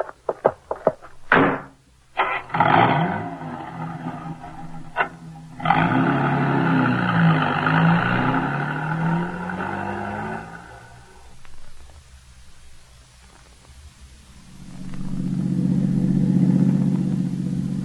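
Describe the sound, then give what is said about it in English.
A few sharp door thumps, then a car engine starts and revs as it pulls away to drive about 100 yards and pull over; after a brief lull, a following vehicle's low rumble rolls in and idles. “Go about 100 yards and then pull over. I'll follow you.”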